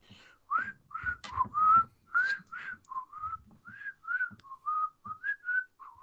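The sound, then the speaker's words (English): A person whistles a bouncy melody, a quick run of short, clear notes rising and falling in pitch with brief breaths between phrases, and no talking. “That's me whistling.”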